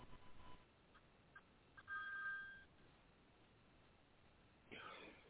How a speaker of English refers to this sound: That was an alarm that should never go off. I apologize for that, folks.